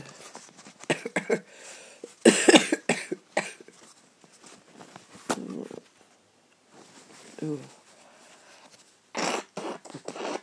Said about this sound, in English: I'm gonna wait a minute, I'm gonna blow my nose.